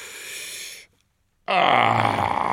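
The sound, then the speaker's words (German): A mighty burp from a very large glutton dragon after swallowing a whole roasted ox in two bites: a breathy rasp, a brief silence, then a loud, long, gravelly belch with a low rumbling tone. No one speaks. “Dann folgt ein mächtiger Rülpser.”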